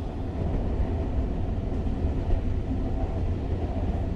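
A steady rumble of a train rolling along the rails, with dense low-end clatter and a constant hum that holds even throughout, no voices or horn.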